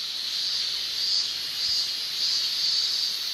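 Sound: cicadas chirping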